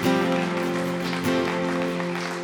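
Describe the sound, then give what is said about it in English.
An audience claps hands in praise of God in a dense, steady wash of applause that lasts the whole time, mixed with sustained, held musical tones underneath. “Come on, give God a great big hand clap of praise.”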